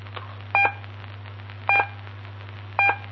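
A Morse code dot for the letter E, a single short electronic beep, sounds three times at even intervals over a steady low hum, with no talking.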